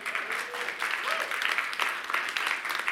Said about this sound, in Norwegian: Kan jeg få låne en av ungdommene som kan spille Jesus i et minutt her? Vi gir han en applaus.